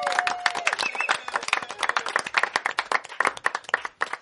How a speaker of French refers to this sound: Applaudissez-les, tiens, au passage.